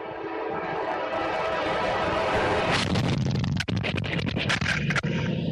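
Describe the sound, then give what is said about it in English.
A train roars past with steady, heavy rumbling, then a sudden flurry of sharp scraping and banging impacts as a police officer standing at the railroad tracks is sideswiped by the passing cars, recorded on his body camera. “a police officer's 3D body cam filmed him getting sideswiped by a train.”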